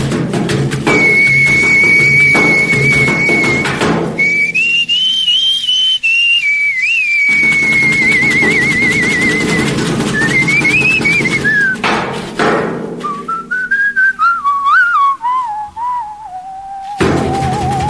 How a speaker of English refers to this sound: Forget about learning how to sing. Stick to your whistling.